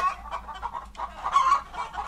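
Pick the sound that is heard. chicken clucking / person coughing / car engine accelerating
chicken clucking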